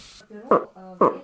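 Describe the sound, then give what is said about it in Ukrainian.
A person imitates a bull moose calling a cow during the rut: two short, loud, throaty grunts a half-second apart, each preceded by a lower droning hum, clear. “Это в период гона, когда гон у лося идет размножение, вот он так самку зовет.”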